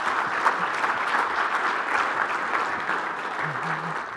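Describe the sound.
A steady wash of audience applause, many hands clapping densely and evenly for several seconds, with a faint voice murmuring underneath near the end.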